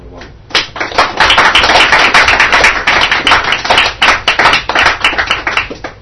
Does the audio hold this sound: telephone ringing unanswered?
no